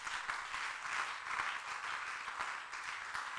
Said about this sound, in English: Oh, somebody must be clapping.